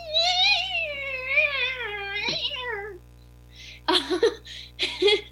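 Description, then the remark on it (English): A person lets out a long, wavering, strained yowl imitating a cat in pain for about three seconds, then breaks into a few short, breathy bursts of laughter. “And that's sounds why like a cat in pain.”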